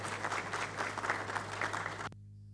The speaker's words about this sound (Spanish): Solamente quería decir eso, darle la más cordial bienvenida y bueno, pedirle a los colegas diputados un aplauso, una bienvenida a nuestros colegas diputados.